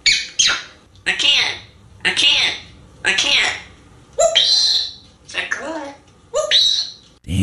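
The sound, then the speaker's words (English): A parrot with a Southern accent mimics human speech, saying phrases such as "Go cuddle", "What are you doing?", "I'm going to get you", "Happy birthday" and "Give me a kiss" in about seven short, bright, squawky bursts spaced by brief pauses, each with a high-pitched, voice-like rasp. “That parrot sounds like a damn person.”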